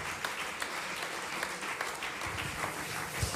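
An audience applauds the evening's technical crew steadily, a dense wash of many hands clapping at an even level throughout, with occasional louder claps standing out and no one speaking over it.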